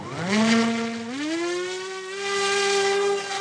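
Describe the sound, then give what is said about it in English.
An AeroVironment Raven, a small hand-launched military drone with cameras and GPS, is launched and flies, its motor a loud, steady buzzing whine that climbs in pitch as it speeds up, then holds an even drone; no one speaks. “Enter the Raven, an AeroVironment drone.”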